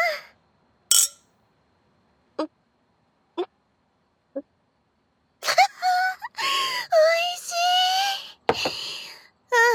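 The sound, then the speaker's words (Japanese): Glasses clink together in a toast while drinking at home, a handful of brief, bright taps spaced about a second apart, followed by drawn-out voiced sighs and moans without clear words. “じゃあとりあえず乾杯しよっか。”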